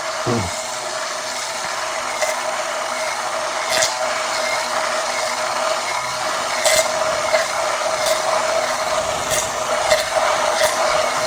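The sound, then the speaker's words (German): An immersion blender whirs steadily while making mayonnaise from an egg and 200 millilitres of oil in a narrow, tall measuring cup, a continuous buzzing motor drone with a bright whine, punctuated by occasional sharp clicks and knocks against the container. No one speaks. “Entschuldigung, den Pürierstab, den Aufsatz noch ein bisschen abschlagen.”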